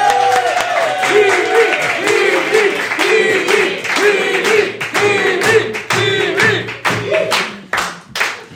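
A studio audience bursts into loud, sustained applause welcoming a guest, dense clapping with whoops and cheering voices mixed in, thinning slightly toward the end.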